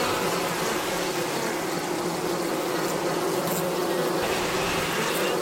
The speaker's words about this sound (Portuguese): Os zumbidos de abelhas em 16 frequências diferentes foram mixados. O consciente ouve tudo como se fosse um som só, e ele causa um medo e ansiedade. Mesmo as pessoas que nunca ouviram abelhas na vida sentem um desejo de fugir.